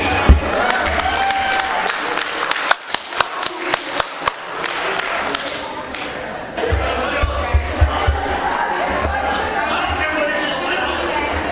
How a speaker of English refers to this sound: Let's give a big round of applause to our next speaker